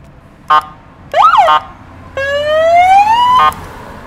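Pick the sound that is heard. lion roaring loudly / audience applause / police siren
police siren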